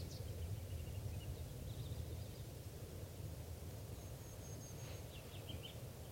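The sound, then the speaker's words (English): Faint, high bird song phrases from a male bird perched right above a net come in short bursts, with thin whistled notes and brief trills rising above a steady, loud low rumble of background noise. No voices. “Okay, bird one there is a male perched right above the net, and this is him getting some song phrases.”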